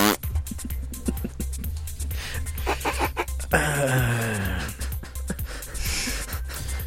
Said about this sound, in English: You're panting a lot over there.